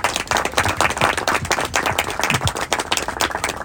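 An audience breaks into sustained applause for two people after a thank-you, a dense, steady patter of many hands clapping at an even loudness throughout, with no voices audible over it.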